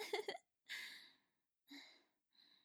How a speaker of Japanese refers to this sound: やっぱりゲップするの気持ちいい。